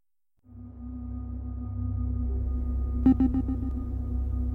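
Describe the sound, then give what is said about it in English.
After a moment of silence, a steady mechanical hum starts up with a soft, airy rush like air conditioning, constant, with a brief cluster of faint clicks partway through. “There's a humming sound and an airy sound, like air conditioning doing its job.”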